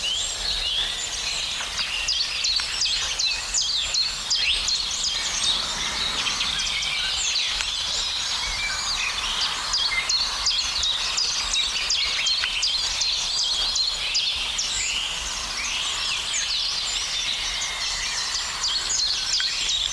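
A blackbird sings amid a dense, continuous chorus of high, bright chirps and twittering phrases that repeat steadily for the whole stretch, with no voices.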